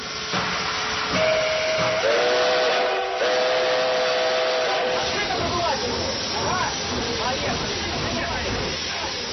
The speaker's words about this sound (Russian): Раздирающий уши свист, откуда-то горячо отдает и окутывает ослепляющий пар, оглушает что-то вокруг загрохотавшее и медленно тянет вперед.